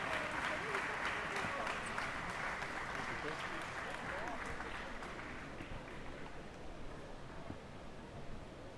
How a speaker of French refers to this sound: Vous pouvez vraiment l'applaudir bien fort